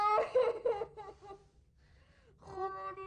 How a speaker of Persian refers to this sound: آفرین گریه نکن.